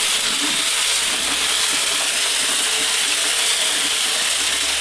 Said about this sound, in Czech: To znamená nasadit lopatou do tlamy, jak se říká štěrku. Máte i haldu štěrku. A následně tedy mohou točit klikou.